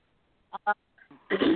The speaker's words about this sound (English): I can't clear my throat tonight.